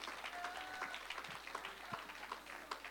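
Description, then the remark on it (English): A crowd clapping hands to the Lord, a dense, irregular patter of many overlapping claps that carries on steadily for the whole stretch at a fairly soft level, with a few faint sustained tones in the background. “I wish somebody would clap your hands to the Lord right now if you believe that today.”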